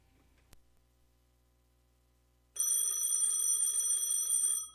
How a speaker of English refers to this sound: Hold it. Let me get that phone.